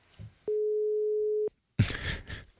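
telephone ringing tone

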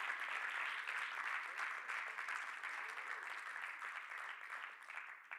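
audience clapping hands

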